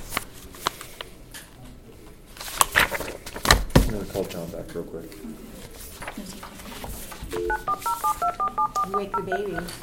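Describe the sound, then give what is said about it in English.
A quick run of about ten mobile phone keypad tones beeps in a steady rhythm near the end, following some handling clicks and knocks, with faint voices in the background. “So you can put it on vibrate or no sound.”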